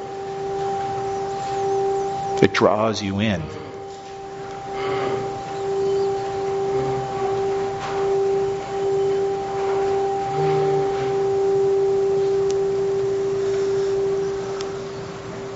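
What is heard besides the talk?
ringing bell tone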